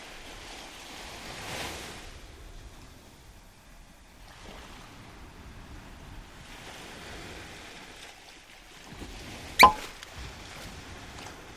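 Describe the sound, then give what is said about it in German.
Broad, hissing swells of sea waves surge and recede in slow washes, with a sharp, brief crack near the end rising above the steady roar. “Wer hat gerufen? Das Meer, wohl.”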